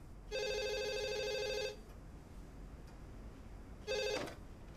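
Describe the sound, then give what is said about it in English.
A telephone rings with a long electronic trill, pauses, then starts a second ring that cuts off abruptly. The ringing is clear, with no talking. “Anthony makes a call. Grandad's phone rings.”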